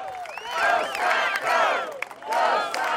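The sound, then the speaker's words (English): A hot, sweaty crowd at a Romney campaign rally cheers and shouts as an airplane with a "Go Scott Go" banner flies overhead, rolling swells of many voices whooping and yelling together, loud and sustained with brief dips between surges. “An airplane with the banner "Go Scott Go" flew overhead, and the hot, sweaty crowd broke into cheers.”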